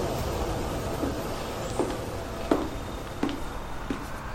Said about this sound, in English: kindly attention train to Yazd is arriving on time at platform number 5.